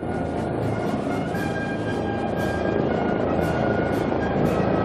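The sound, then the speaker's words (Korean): A WG-19 ultralight attack helicopter flies steadily overhead at a Chinese military parade, its dense, continuous rotor and engine roar loud throughout, with a faint high whine riding above the rumble and no voices. “이 밖에 조기 경보 체제를 갖춘 Y-9 정보 정찰기, 초경량 공격 헬기인 WG-19도 열병식에 공개됐습니다.”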